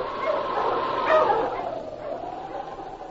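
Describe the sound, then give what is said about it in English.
Dogs racing ahead over a smooth trail through snow-covered land at nightfall bark and yip over a steady rushing background, with a brief louder burst of barking near the middle before the calls fade back into the noise. “the dogs raced ahead over the smooth trail”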